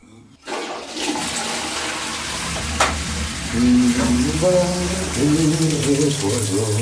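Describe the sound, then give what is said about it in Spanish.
A spacecraft toilet drains waste with a sudden loud rush of water and suction that roars steadily for several seconds, gurgling and sizzling, joined midway by a low humming whine that wavers in pitch. “Siempre me pregunté a dónde desagota todo esto de los aviones, aeronaves y cohetes que volamos alrededor de la Tierra.”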